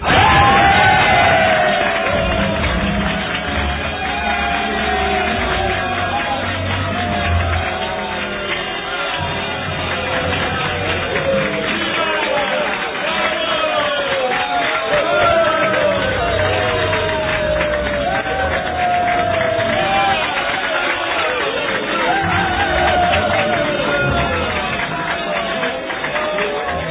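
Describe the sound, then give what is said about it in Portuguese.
A huge arena crowd of more than 300,000 spectators roars and cheers continuously during chariot races as the first charioteers and horses die in fatal accidents, dense overlapping shouts and whoops at steady high volume. “A plateia vibra quando morrem na arena os primeiros cocheiros e cavalos, vítimas de acidentes fatais.”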